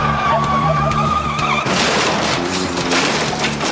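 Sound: car skidding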